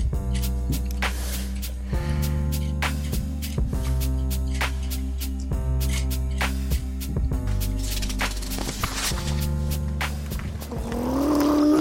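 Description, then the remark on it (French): A heavy garbage truck engine drones steadily, punctuated by repeated sharp clanks and bangs, before a rising high-pitched tire screech swells at the very end. “Camion d'ordure, pneus crevant.”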